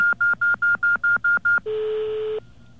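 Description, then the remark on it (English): Touch-tone phone keypad dialing as 1234 and the pound sign are entered to send a page to a pager: eight short, evenly spaced beeps in a quick steady rhythm, followed by one longer, steady tone. Clear, with no voices. “I entered 1234, and I hit a pound sign to tell it I'm finished.”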